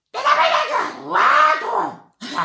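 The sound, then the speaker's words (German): A voice imitates a person screaming: two long, loud, strained cries in quick succession, with a third starting just as it ends. The cries are harsh. “So fühlt sich zumindest an, weil man immer eine Person schreien hört.”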